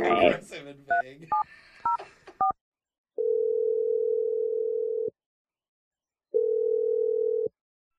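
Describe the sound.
A quick run of touch-tone beeps as a phone number is dialed, followed by two long, steady ringback tones separated by a pause. A brief voice is heard at the very start.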